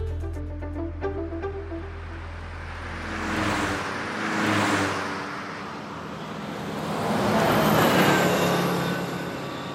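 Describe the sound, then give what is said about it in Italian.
Trucks and cars rush past nonstop on the Pontina, a provincial road of over 100 km linking Rome to the Lazio coast in Italy, several loud whooshing pass-bys swelling and fading one after another, with a low engine rumble at the start and steady traffic noise throughout. “Camion e macchine sfrecciano senza sosta sulla strada.”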